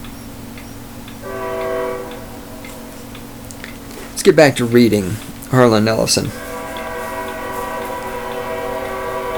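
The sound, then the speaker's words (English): A passing train's horn blares, first in a short blast, then in a long, steady one that holds to the end, with a man briefly talking in between. “It's a train coming. Can you guys hear that? The trains have to blow their horns to make fucking sure we know they're coming through.”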